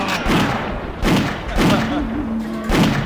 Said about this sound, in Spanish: Pero me ha dado a mí, no te ha dado a ti. Se han pegado a tiros ahí, tan al lado,